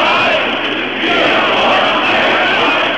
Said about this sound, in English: Hundreds of thousands marched calling for freedom in all its forms. Free speech, freedom to travel, freedom to form political parties. They chanted, "We want free elections."